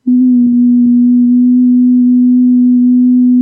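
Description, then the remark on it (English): A steady, pure low-pitched tone near the resonant frequency of the temples hums without a break, unchanging in pitch and holding at a constant, fairly loud level for the whole stretch, with faint soft crackles underneath. “And the frequency I heard was right around this frequency.”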